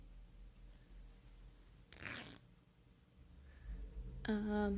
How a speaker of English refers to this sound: Yeah, undo the zipper.